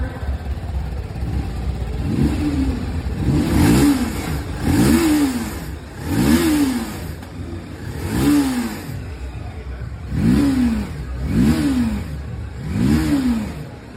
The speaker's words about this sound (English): here is the sound guys. I'm going to show you the exhaust load of the brand new TVS Apache RTR 310. Let me rev it.